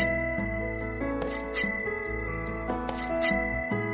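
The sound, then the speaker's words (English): A tricycle bell rings in quick bright dings, two clusters of rapid strikes over a sustained musical backing, clear with no voices. “Let's ride the tricycle.”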